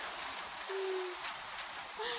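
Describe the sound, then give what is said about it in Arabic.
Steady rain patters down in a continuous hiss, with a brief low whistling tone rising above it twice and no voices. “سأجرب أن ألعب وأتحرك وأغتسل تحت المطر لأكون نظيفا. ما أجمل المطر.”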